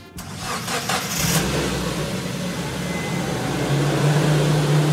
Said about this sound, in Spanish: Ese es muy fácil, es un auto, obvio.